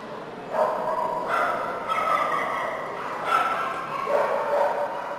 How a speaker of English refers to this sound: Nearly 2,000 dogs are here at the Golden Gate Kennel Club Dog Show in San Francisco, breeds of every shape and size.